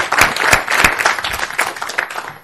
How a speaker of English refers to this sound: Should we have all the parents clap for you today? Yeah, let's. Let's give the children a hand. Woo-hoo!